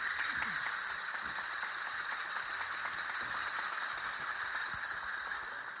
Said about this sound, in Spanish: Primero, unas palmas de toda la vida. Después, un aplauso versión taconeo. Y para finalizar, el llamado aplauso castañuela.